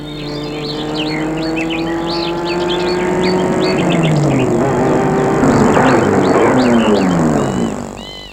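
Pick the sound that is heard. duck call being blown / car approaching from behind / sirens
car approaching from behind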